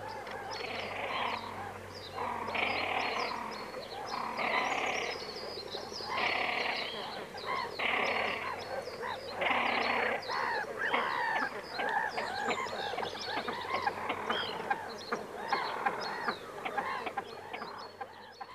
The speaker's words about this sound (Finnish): Sitten mennään viikon luontoääneen. Se on silkki uikku tällä kertaa